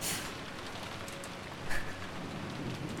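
Heavy rain pours down steadily in a forest with an icy wind blowing, a dense, hissing wash with a brief louder splash or gust midway through and no voices.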